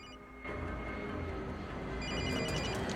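A mobile phone rings with a bright electronic tone, steady and fairly close, over a constant low rumble of background noise.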